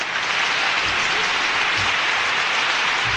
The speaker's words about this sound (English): This is the rain. We had it the other day.